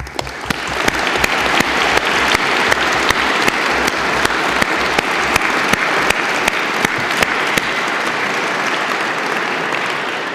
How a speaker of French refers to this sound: de bien vouloir se lever afin que nous l'applaudissions.